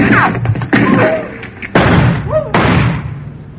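gunshots fired

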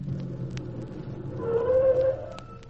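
car approaching

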